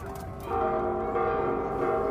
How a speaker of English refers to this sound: The sound of the bells of Mexico City's cathedral during Holy Week mixes with the chants of protesters from one of Mexican Catholicism's most uncomfortable offshoots, the rapidly expanding cult of La Santa Muerte, or Saint Death.